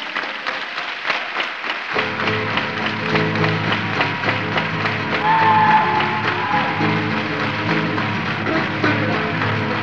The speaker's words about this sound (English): If you think you're ready, if you think you can, won't you get yourself together? Hey, let me hear you clap your hands.